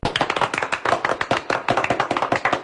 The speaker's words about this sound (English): It's nervous clapping.